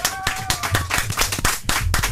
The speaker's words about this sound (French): Applaudissements!